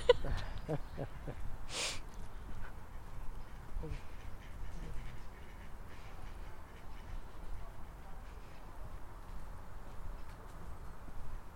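Ducks quack a few times early on, short nasal calls against a steady outdoor background of rustling and low wind, with a sharp bright chirp near the start.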